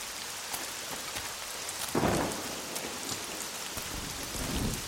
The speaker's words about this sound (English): I'm still strolling in Darakeh neighborhood. A kind of natural pond-like atmosphere has been created here by the Darakeh River. I want to walk in one of these alleys. It's just raining.